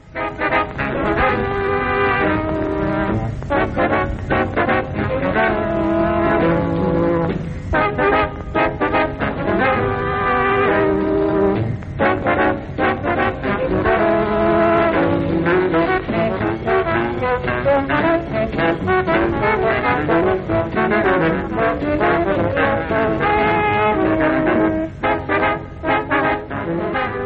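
An old 1950s jazz recording plays throughout, with brassy horn lines weaving over a steady rhythm section at a constant, full level, with no talking.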